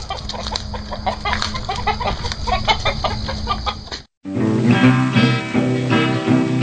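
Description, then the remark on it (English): Several roosters, a father and son fighting, cluck loudly in a busy, overlapping stream of short calls, then after a brief gap a denser, more tonal burst of clucking continues. “Alright guys, we're going to have to break this up. Somebody gets their comb ripped off. You go back in your pen, buddy.”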